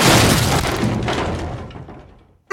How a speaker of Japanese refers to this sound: 俺はやけくそになって手にしていたハンマーを振りかざした。 ドアごとぶち破ってしまおうと、そう思った。